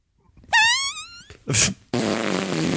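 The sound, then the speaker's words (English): A loud fart sound effect played from an effects board: a buzzy, wavering toot, then a short blast and a long, noisy sputter, with no one talking. “Do you want to hear a fart?”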